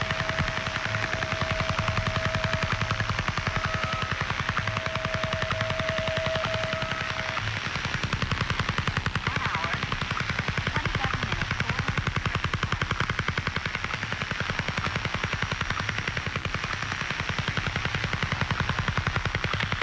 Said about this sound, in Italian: il disturbo era stato denominato dagli appassionati di ascolto il picchio, o woodpecker in inglese, per il suo continuo ticchettare. Ecco una registrazione che ci permette di ascoltare l'entità di questo continuo disturbo causato dal radar Duga.